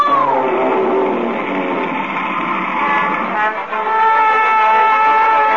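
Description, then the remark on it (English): A whale sneezes in one huge, sustained blast, a loud, horn-like, tonal roar that holds steady for several seconds with a brief dip near the end. The sneeze shoots a raft out like a cannonball. No one speaks. “I was right outside when that whale sneezed, and that raft shot out like a cannonball.”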